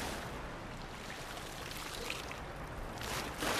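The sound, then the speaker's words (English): Steady rushing, splashing water fills the scene, with a few sharper sloshes as large aquarium nets dip through a raceway to scoop up young smolt fish that evaded the pumps, and a louder surge at the very end. “Jason Folks and two co-workers are using large aquarium nets to scoop up smolt that evaded the pumps.”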